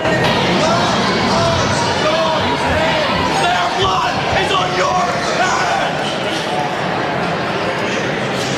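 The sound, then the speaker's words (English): Hundreds of angry protesters packed into the House gallery scream and shout together after a House vote, in a dense, continuous roar of overlapping voices that stays loud and unbroken from start to finish, with raised cries such as "murderer" and "their blood is on your hands" poking through the din. “These protesters, they're screaming at the top of their lungs things like murderer.”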